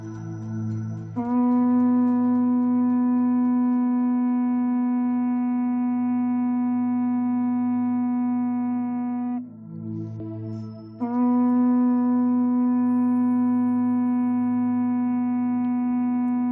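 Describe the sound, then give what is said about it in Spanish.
Traditional horns (bocinas), blown from the mountains of Biscay as the legendary call that summoned the Juntas Generales meeting in Guernica, sound two long, steady blasts. Each is held for several seconds at a low, brassy pitch with a brief gap between them. The tone is loud and unwavering, with no voices. “Es el sonido de las bocinas con el que dice la leyenda que se anunciaba que se convocaba la reunión que tenía lugar en Guernica en los siglos XIV y XV.”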